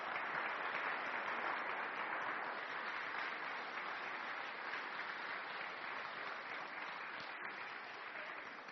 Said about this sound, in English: A round of applause. Thank you very much.